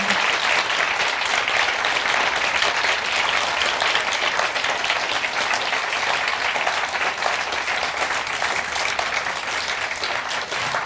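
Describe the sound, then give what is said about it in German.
Sustained audience applause for a speaker at the close of a talk, a dense, steady wash of many hands clapping at once, loud and even throughout without any voices standing out. “Einen riesen Applaus, bitte.”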